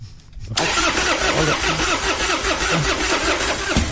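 A car engine at a McDonald's cranks loudly in a steady, rhythmic churning for over three seconds after a brief quiet moment, never catching into a running idle before it abruptly stops.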